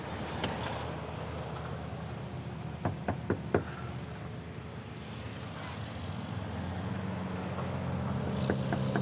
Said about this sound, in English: As I knocked on the door, I peered inside the window a bit and saw someone walking around.